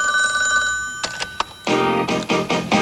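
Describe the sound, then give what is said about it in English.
A telephone rings with a steady, bright electronic tone, followed by a few short, loud bursts of ringing in quick succession, clear with no one talking. “I must be out or I pick up the phone.”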